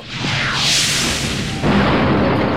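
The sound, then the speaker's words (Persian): A rocket-propelled grenade, fired at an Iraqi Ba'athist machine-gunner, whooshes away, then bursts in a loud, rumbling explosion, a single blast whose noisy roar fills the short clip. No one speaks. “علی خوشگوش که از قدیمی های گردان بود، آرپیجی رو از احمد گرفت و رفت طرف تیربارچی بعثی عراق.”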